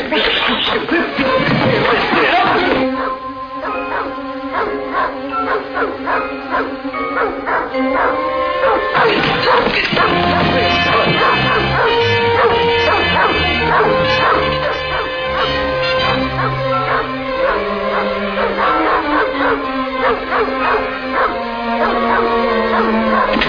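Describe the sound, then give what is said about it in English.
Dr. Drury's dog barks excitedly and whimpers in high yips, loud, almost without pause for over twenty seconds, with indistinct voices mixed underneath. “Now, what were you doing with Dr. Drury's dog?”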